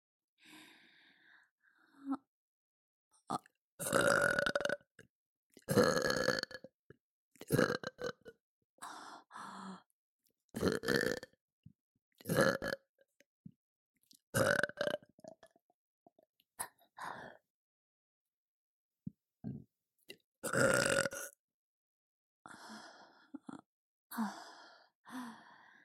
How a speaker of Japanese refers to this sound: いいわよ、こっち来て。ほら、お姉ちゃんのゲップ嗅いでちょうだい。